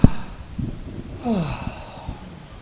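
A single big yawn done as a jaw-loosening exercise: a breathy intake of air followed by a drawn-out, voiced exhale that slides downward in pitch, with no talking around it.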